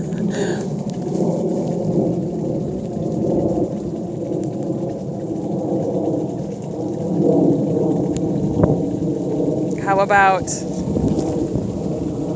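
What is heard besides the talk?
airplane flying overhead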